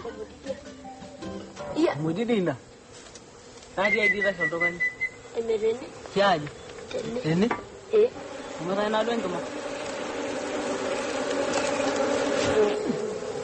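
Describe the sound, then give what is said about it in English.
A dense, steady drone of buzzing bees around a beehive fills the whole stretch, swelling slightly toward the end, while short bursts of voices break in over it every second or two. “The boys have hit the jackpot, a beehive.”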